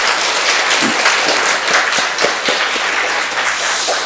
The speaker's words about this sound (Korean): 아, 좋습니다. 우리 박수 한번 칩시다.